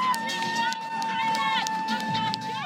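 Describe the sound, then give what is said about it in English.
A dense crowd of thousands of spectators along a race course cheers, sings and shouts encouragement to the runners, many voices overlapping, with a steady high whistle-like tone running underneath throughout. “And gathered all along the course are thousands and thousands of spectators, singing, cheering, and encouraging the runners on.”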